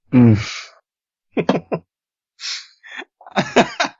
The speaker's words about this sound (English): That's a very disorienting groan noise.